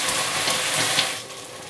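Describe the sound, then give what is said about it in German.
Water hisses and sizzles in a hot pan as it deglazes, loosening the burnt-on residue, a steady loud crackling hiss that holds for over a second before easing off slightly toward the end. No one speaks. “Und bei dem Zischen löst sich das Angebrannte.”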